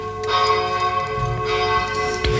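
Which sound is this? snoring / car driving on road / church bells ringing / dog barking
church bells ringing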